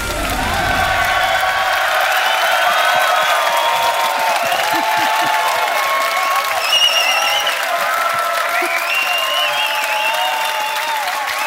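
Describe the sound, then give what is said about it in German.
A live audience at a live show on tour in the Schubiger Möbelhauptgeschäft furniture store by the Glatt applauds loudly and steadily for several seconds, a dense wash of clapping mixed with cheering voices and a few whoops that stays full throughout. “Besonders gut für den Markus, weil er schafft am Ort, wo er nie Applaus bekommt.”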